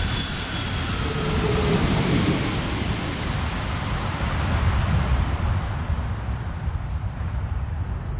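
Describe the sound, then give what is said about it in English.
A passenger jet engine roars loudly and steadily throughout, a dense, rumbling wash of noise that stays constant, its hiss fading slightly toward the end. No voices are heard. “Imagine landing a large passenger plane in a dense fog.”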